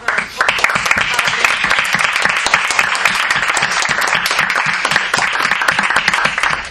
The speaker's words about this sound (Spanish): Aplausos y gratitudes.